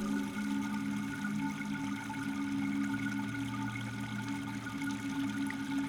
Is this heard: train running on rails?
no